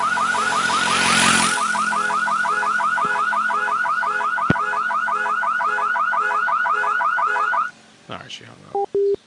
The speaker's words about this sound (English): Yeah, can you find out who has this car and have them come down here and turn off the alarm?